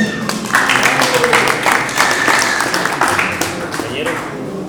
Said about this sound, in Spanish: Un aplauso.